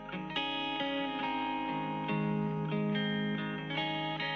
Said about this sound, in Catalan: Per bé, doncs, posarem una música, una cançó, mentre esperem aquestes dues trucades, eh?